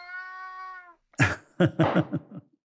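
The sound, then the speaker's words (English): A male cat meows loudly near the microphone during an interview, one long steady drawn-out cry followed by a quick series of shorter, rougher yowls in an uneven rhythm. “I have a cat who appears at every interview I do. His name is Wilbur, and he loves the mic.”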